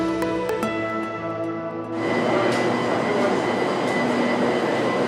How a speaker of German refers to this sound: Mit 160 Sachen in die Zukunft. Die neue elektrifizierte Eisenbahn im ostafrikanischen Tansania verkürzt die Reisezeit enorm.